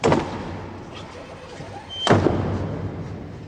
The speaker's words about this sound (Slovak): Všetky nepovolané osoby opustili kaplnku. Zostali len poverené osoby a kazateľ. Dvere Sixtínskej kaplnky sa následne zvnútra uzavreli.